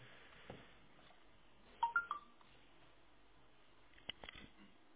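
A telephone switched between tone and pulse dialing modes: a few short, quiet keypad beeps in tone mode, then a couple of seconds later a brief, rapid run of dry clicks in pulse mode, like a rotary dial, over a faint hiss with no talking.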